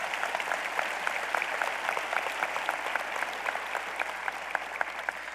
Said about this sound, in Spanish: Amén. Dele un aplauso al Señor bien fuerte.